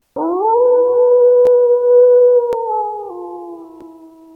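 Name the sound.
wolf howling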